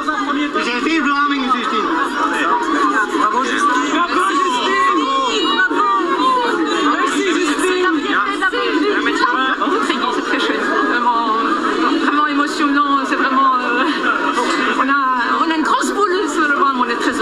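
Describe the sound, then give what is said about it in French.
A large crowd fills the air with dense, continuous chatter and overlapping voices, steady and loud throughout, with occasional shouts and laughter rising from the mass of people welcoming someone back to his home country at the airport. “Alors, le retour au pays, on écoute l'accueil à l'aéroport.”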